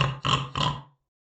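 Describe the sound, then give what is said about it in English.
A big, fat female pig grunts in a quick run of two or three rough, throaty snorts, fairly loud, then falls silent. No one speaks. “Big fat pig!”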